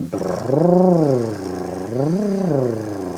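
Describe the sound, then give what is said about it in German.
A voice does a buzzing lip trill like a motorboat engine as a vocal-cord exercise, its pitch gliding up and back down twice in smooth arcs. The fluttering hum is steady and fairly loud, with no speech. “Die erste Übung, die sie empfiehlt, ist wie ein Motorboot brrrr zu machen.”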